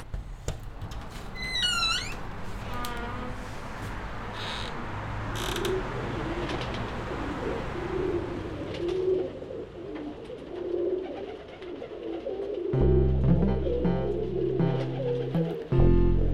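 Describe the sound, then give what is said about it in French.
Pigeons coo in low, repeated throaty bursts at a shared work studio, joined early by a few high squeaky chirps and some faint clattering, with no voices present. “Dans la réalité, c'est assez contradictoire de se dire qu'on est dans un atelier de travail où on est beaucoup, mais qu'au final, on est devenu quand même le lieu des pigeons.”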